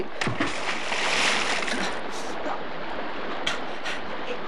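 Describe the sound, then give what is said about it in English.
A sudden splash as someone jumps into a river, followed by a few seconds of churning, sloshing water, with no one speaking. “What do I do now? Jump in the river.”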